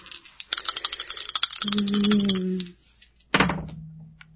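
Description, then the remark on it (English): Dice rattle and clatter in a quick burst of sharp clicks, fairly loud, then tumble to a stop, with a short hum-like voice sound and a second clack near the end. “Okay, come on, dice.”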